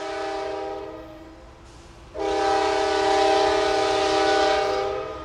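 A Music City Star commuter train, serving Wilson County commuters in the Nashville region, sounds its horn in a steady multi-tone chord over a low rail rumble; the blast eases briefly, then returns louder and holds for several seconds.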